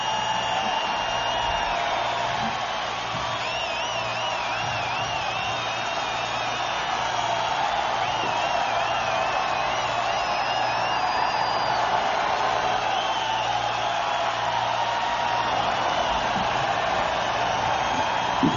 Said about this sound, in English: It's absolutely fantastic, the crowd response now at Kezar Stadium.